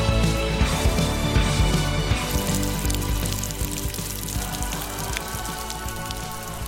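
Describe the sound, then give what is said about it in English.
Heavy rain pours down steadily just after 8 a.m., as cyclists arrive home from a bike ride, a dense, continuous hiss of drops with scattered sharper patters and splashes throughout, loud and unbroken with no voices. “As you can hear, it's still dumping down”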